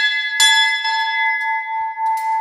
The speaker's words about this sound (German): Das ist die Glocke, mit der man hier im Kloster um Einlass bitten konnte. Ins ehemalige Kloster Dahlheim,